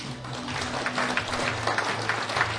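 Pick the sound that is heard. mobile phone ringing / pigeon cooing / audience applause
audience applause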